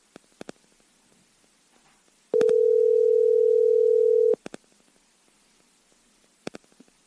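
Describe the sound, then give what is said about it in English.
A single steady ringback tone on a phone line hums for about two seconds at a low-mid pitch, loud and even, framed by faint clicks before and after while waiting for an answer. “I told him I was calling, so let's see if he picks up.”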